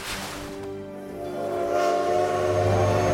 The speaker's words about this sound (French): Alors que le train sifflait à travers la campagne, Luca se pencha par la fenêtre et regarda devant lui.